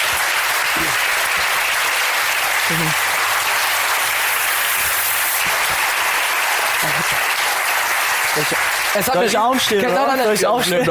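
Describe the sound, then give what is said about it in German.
Sustained applause from a live audience, a dense steady wash of clapping that fades out near the end as a voice starts speaking over it. “Dafür nochmal einen ganz fetten Applaus.”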